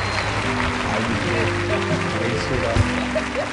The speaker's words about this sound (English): Come on, give him a hand clap. Come on, give him a good hand clap.